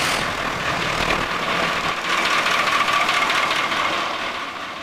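A fire engine's large diesel engine starts and rumbles loudly, shifting after a couple of seconds into a steady, rough idle with a dense mechanical clatter and no voices.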